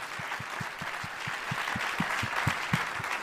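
A crowd applauds steadily, a dense wash of clapping with a regular thumping beat running underneath at a quick, even pace, growing slightly louder toward the end.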